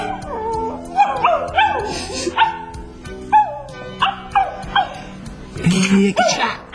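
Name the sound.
small dog barking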